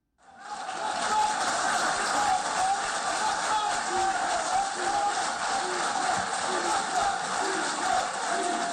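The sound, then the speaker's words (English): A large crowd claps steadily while many voices chant "Libya, Libya, Libya" in a repeated rhythm as deputy speakers of Libya's two rival parliaments sign the National Unity Accord in Skhirat, Morocco, forming a dense, continuous roar that starts abruptly and stays loud throughout. “The crowd clapped and chanted, "Libya, Libya, Libya," as the deputy speakers of the country's two rival parliaments signed the National Unity Accord, then embraced and raised their arms in the air together in a gesture of solidarity.”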